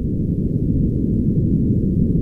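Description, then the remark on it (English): An underwater recording of an earthquake: a loud, steady low rumble with deep churning energy that holds constant for about two seconds, with no voices. “And that'll be followed by the sound of an earthquake.”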